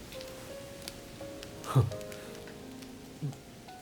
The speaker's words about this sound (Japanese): おお、ようやく雨も弱まってきたな。